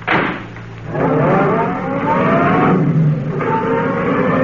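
A roadster's engine turns over and revs loudly, its pitch climbing and dipping in sustained surges for several seconds, with no voices.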